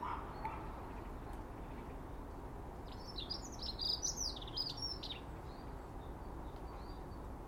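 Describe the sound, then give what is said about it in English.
A blackbird chirps in a quick burst of short, high notes partway through, over a steady rushing outdoor background, while eating the remnants of porridge put out earlier; no one speaks. “Mr. Blackbird's polishing off the remnants of the porridge put out earlier.”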